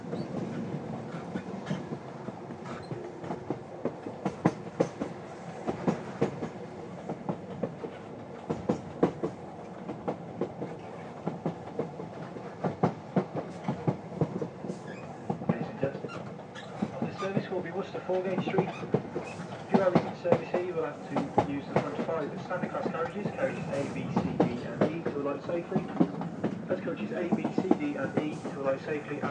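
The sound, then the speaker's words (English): A train rumbles along with a steady clickety-clack, its wheels giving a thin, drawn-out squeal as it goes round a corner, over the continuous rolling noise, while voices murmur faintly underneath. “It's a squeaky sound as we go round the corner.”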